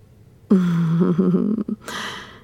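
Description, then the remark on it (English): A sharp, voiced intake of breath, stuttering briefly in the middle, followed by a breathy exhale that trails off. No words are spoken. “I noticed your breathing just sharpened.”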